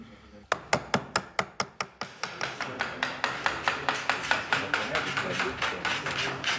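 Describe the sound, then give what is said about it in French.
A small turned wooden mallet shaped like a bell taps a gouge handle in a rapid, steady series of about thirty sharp, hollow knocks, evenly spaced and holding a fairly constant loudness throughout. “Qui recommande ici d'y aller franchement avec un marteau, un petit marteau de bois tourné en forme de cloche qui frappe sur le manche de la gouge.”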